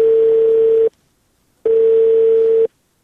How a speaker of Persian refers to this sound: بله سیب، تلفون قطع شد.